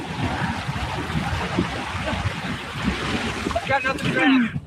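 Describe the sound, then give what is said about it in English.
Steady, loud rushing of whitewater river rapids with splashing throughout as a boat goes through the rapid, and a voice briefly breaking through over the churning water near the end. “So a swimmer, to me, as somebody swimming at the end of a rapid like this, they're not going to die.”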